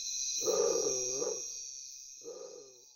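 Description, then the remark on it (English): A tiger-striped heron gives two deep, moaning calls, a longer one followed by a shorter one, sounding much like a big cat's growl over a steady high-pitched background whine. “Undoubtedly, the name was derived from the plumage having a tiger-striped pattern, but the moment you hear its voice, you can't help think of a large cat.”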